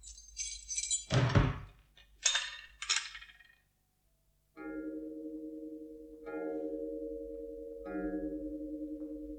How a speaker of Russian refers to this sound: Закрывайте дверь